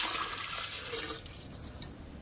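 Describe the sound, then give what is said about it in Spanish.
Water pours steadily into a glass bottle as Muschenbroek fills it, a continuous splashing, gurgling rush with no voices, holding a fairly even level for a couple of seconds. “Cogió una botella de cristal y la llenó de agua.”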